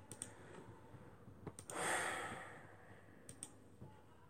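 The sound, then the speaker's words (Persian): Scattered keyboard clicks tap out at irregular intervals as a lesson example is typed out, a few close together, with a soft breathy exhale in the middle. Quiet, with no one speaking. “بذارید من تخته یه بار بنویسم.”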